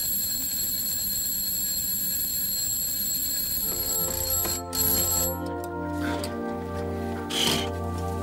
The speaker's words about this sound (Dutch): Jongen, ik schrik me een ongeluk. Het was een wekkert.